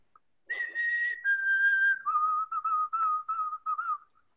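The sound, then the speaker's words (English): A person whistles an imitation of a white-throated sparrow: two long, clear held notes stepping slightly downward, then a run of six or seven shorter, lower repeated notes, with no talking. “I don't know if there's multiple different types of sparrows, but the white-throated sparrow makes this call.”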